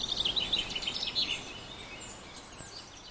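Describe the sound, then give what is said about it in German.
Birds chirp and sing outdoors at the historic car cemetery in Kaufdorf in a busy burst of high, twittering calls over a steady background hiss, tapering to fainter, scattered tweets toward the end. “Ein paar Oldtimer-Fans, ein paar Kunstliebhaber und viele Vögel.”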